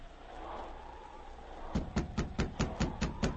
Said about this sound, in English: Taking King aboard the boat with him, Sergeant Preston was told the number and location of Barry's cabin. Within a short time, he stood knocking on the cabin door.